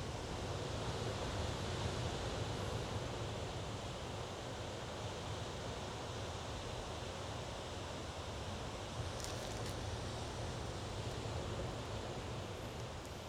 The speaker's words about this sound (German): Und das Wellenrauschen, was sicherlich sehr präsent ist auch für dich im Hintergrund. Lad das Wellenrauschen ein, Teil deiner Meditation zu sein.